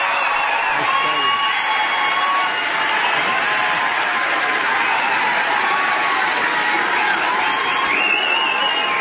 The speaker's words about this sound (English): Round of applause.